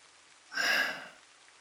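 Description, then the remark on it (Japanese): A soft, hissing swell of rain rises briefly and fades within about half a second, fairly quiet, with no voices, as someone without an umbrella takes shelter from it. “雨宿りしてんの。”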